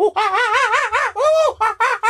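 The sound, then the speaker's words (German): A human voice imitates a screeching Australian bird call in loud, harsh bursts with wavering, warbling pitch, about five squawks in quick succession, unaccompanied. “Das ist nicht Vogelgesang, das ist Vogelgeschrei.”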